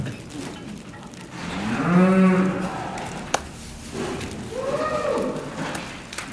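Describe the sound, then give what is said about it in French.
A cow moos twice during a veterinary exam checking whether she is pregnant: first a long, deep, drawn-out bellow, then after a brief pause a shorter, somewhat higher call, over a steady background noise. “Je suis en train de vérifier si cette vache est gestante, c'est-à-dire si elle a un petit veau dans le ventre.”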